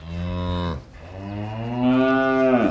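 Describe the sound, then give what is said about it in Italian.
A cow moos twice, loud: a short low call, then a longer, drawn-out moo that rises slightly in pitch. No other sounds or voices. “Noi della borgata avevamo 6 vacche, Italia, Viola, Patria, Nera, Donna e Rachele.”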